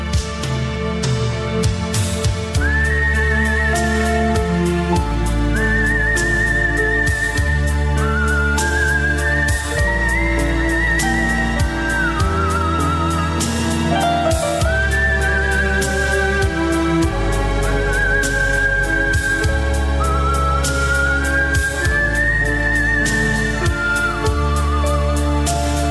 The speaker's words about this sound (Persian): نمونه آهنگسازای بزرگی هستن که از سوت توی کارشون استفاده کردن، ولی فکر می‌کنم که واقعا هنوز سوت به اون جایگاهی که باید نرسیده.